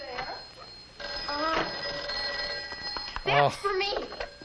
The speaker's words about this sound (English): Oh, now the telephone's ringing. Phone's ringing, and she's very happy.